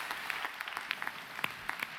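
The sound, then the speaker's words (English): A crowd applauds a guest with dense, irregular clapping, a steady wash of many hands with a few sharper claps standing out, at a moderate level and without any voices. “Hey, let's hear it for Devon.”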